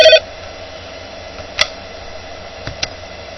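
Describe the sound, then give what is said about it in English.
A phone call being dialed to Ed, a fantasy author in Toronto, for Mortality Radio: a short electronic tone opens, then a steady faint line hum carries on with a few scattered clicks and ticks, no voices. “We are calling Ed.”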